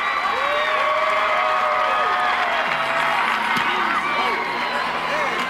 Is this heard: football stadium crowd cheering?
yes